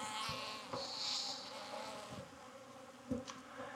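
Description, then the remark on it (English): Honey bees buzz steadily around a beekeeper working a honey box, a dense droning swarm with a few louder passes and faint knocks, continuous throughout with no talking. “A couple of bees finding their way under my cuffs, I think.”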